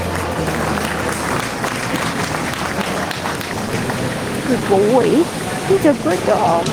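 A large crowd claps steadily in a dense, continuous wash of applause, with scattered shouts and cheers rising toward the end, sounding like a packed stand in an open venue.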